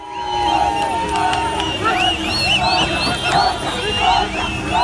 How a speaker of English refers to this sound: Hearing some of the cheering there.